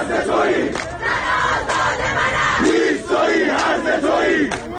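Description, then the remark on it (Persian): A large crowd of protesters around Behesht-e Sakineh near Karaj, gathered for the fortieth-day memorial of those killed in recent protests, chants slogans together in loud, rhythmic bursts. The massed voices rise and fall in repeated phrases, with sharper shouts breaking through at intervals. “در تصاویر منتشره سر دادن شعار و شلیک گاز اشک‌آور و تیراندازی به سوی معترضان دیده می‌شود.”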